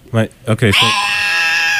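A few short, throaty yelps lead into a loud, shrill fisher cat scream that holds steady and piercing, like a wailing baby, for over a second.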